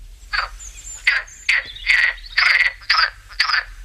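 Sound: common frog croaking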